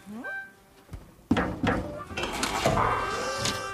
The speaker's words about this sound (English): I'll just open the trap door.